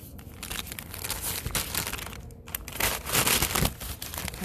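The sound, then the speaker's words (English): Paper crinkles and crunches continuously for several seconds, a dense crackling rustle with sharp bursts, steady and fairly loud, with no voices. “What is that, oak? I think it's paper.”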